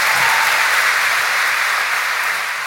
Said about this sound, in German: Immer wieder wird Giselle Pellicot von Applaus unterbrochen. Der kleine Saal der Hamburger Leishalle ist restlos ausverkauft.